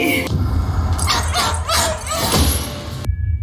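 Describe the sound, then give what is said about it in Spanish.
A dog yelps and barks in a quick series of sharp bursts, with softer whimpering between them over a low, steady rumble, before the sound cuts off abruptly near the end; from Ben Leonberg's psychological horror film told from a dog's point of view. “Acabas con un terror psicológico, el horror desde el punto de vista de un perro.”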